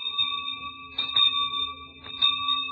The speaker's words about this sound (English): Yes, the good old school bell.